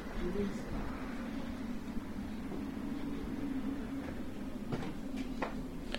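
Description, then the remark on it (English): A steady, low rumble of a tram running as people board it at the back, with a few sharp clicks and rattles near the end and indistinct voices murmuring in the background. “Well, there's one car coming, but we're just going to get on the back of the tram.”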